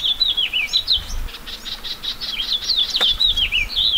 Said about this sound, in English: A light April rain falls in the Anza Borrego Desert in southeast California. Cacti and wildflowers glisten with raindrops, and birds begin to sing.